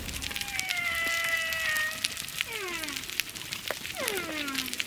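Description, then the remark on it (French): Humpback whale song recorded on a coral reef as a humpback whale passes, over a steady crackling reef background: a long sustained tonal moan, then several downward-sweeping cries with bright harmonics, moderately loud and unaccompanied by any voices. “Alors là, j'entends le bruit de fond dont vous parliez, j'entends la baleine avec ce chant”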